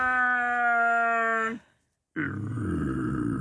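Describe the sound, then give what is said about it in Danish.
A voice imitates the roar of Chewbacca from Star Wars: first a sustained, tonal howl for about a second and a half, then a short silence, then a rough, gravelly growl, loud. “Chewbacca, det er den store hund. Den der helt behårede en, der siger...”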